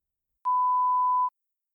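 A single steady electronic beep, a pure mid-pitched tone lasting just under a second, clear with silence on either side, signalling listeners in a listening test to answer the question.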